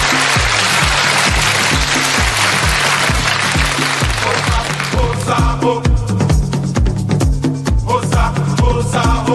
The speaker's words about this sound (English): As the whittly guitar reaches a crescendo and the canned applause kicks in, we're immediately whipped into the image of some congas being bashed as the first act appears.